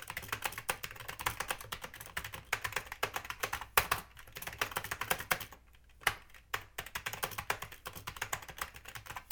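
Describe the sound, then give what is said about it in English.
Rapid, continuous typing on a Dell QuietKey computer keyboard, with dense clattering keystrokes and a brief pause partway through before the tapping resumes. No one speaks. “This keyboard is a Dell QuietKey keyboard.”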